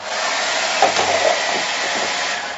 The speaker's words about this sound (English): the hairdryer needed power to blow those cups over